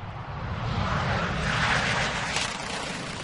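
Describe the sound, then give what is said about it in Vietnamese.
US and South Korean fighter jet engines roar steadily during a week-long joint military air exercise in South Korea involving about 80 fighter jets: a broad, loud rumble and hiss that swells slightly midway, continuous throughout with no voices. “Cuộc thao diễn kéo dài một tuần này được gọi là Max Thunder, bao gồm khoảng 80 phản lực cơ chiến đấu của Hoa Kỳ và Nam Triều Tiên.”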